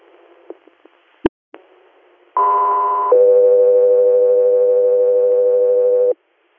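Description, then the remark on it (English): Radio dispatch alert tones for Field 3 Radar: a higher steady tone sounds for under a second, then a lower steady tone holds for about three seconds, preceded by a few faint clicks and a sharp pop. “Field 3 Radar, stand by for tones.”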